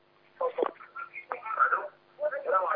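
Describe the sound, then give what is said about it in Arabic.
Muffled, indistinct voices from a television playing in the background of a caller's phone call drift through a thin phone line. They rise and fall in short bursts with no clear words and sound somewhat faint. “وطي التلفزيون خالص وكلمني من التليفون.”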